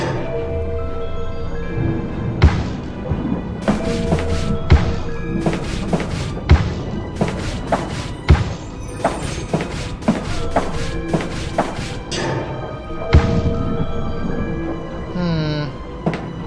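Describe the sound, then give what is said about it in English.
A series of dull thuds and scuffing bumps as someone slides and knocks along a wall beside a door, repeating irregularly over steady background music. “And I can slide against the wall.”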